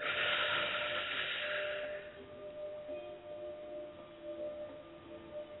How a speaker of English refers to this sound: So, are you all ready? Okay. Let's breathe in.